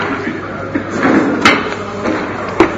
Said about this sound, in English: Do you mind closing the door? The air conditioner's on, I think.